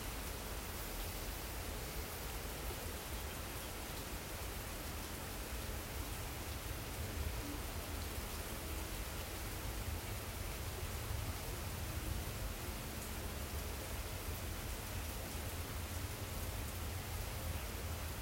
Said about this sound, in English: So when we go within, we can notice the rain, right, within our ears, the sound.